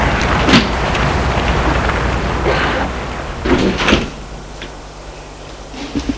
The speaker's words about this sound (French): Elle s'approche de la porte vitrée qui s'ouvre. Elle entre.